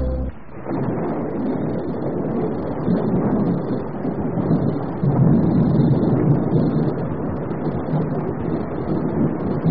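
Heavy rain pours steadily with a deep, rolling rumble of thunder underneath, a dense roar that fills the whole stretch without pause and with no voices.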